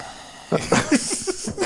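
A voice imitates heavy breathing: a quick run of about six rhythmic, breathy panting bursts, some slightly voiced, fairly loud and with no other sound around them.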